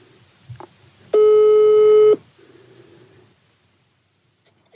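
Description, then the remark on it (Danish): A single steady telephone ringing tone sounds for about one second, loud and clear, then stops, leaving faint line noise and low rustling with no talking, as a call is placed to a director of a merchants' cooperative. “Jeg kan lige prøve at se her, om han er ved telefonen.”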